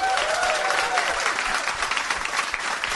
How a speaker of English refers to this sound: Yeah. Give me a round of applause if you have seen Die Hard.